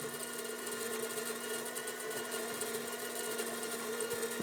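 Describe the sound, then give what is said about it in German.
A coffee grinder grinds large coffee beans with a loud, continuous motorized whir and gritty crunching, a sustained grinding with no pauses and no voices. “Hier, ich hatte Kaffee malen, erstmal.”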